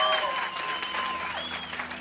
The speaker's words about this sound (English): Come on, can we give God a hand clap for this? Можем воздать славу Богу.